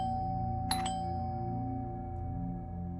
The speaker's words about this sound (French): j'ai vu la personne lever un doigt ganté de noir pour appuyer sur une sonnette.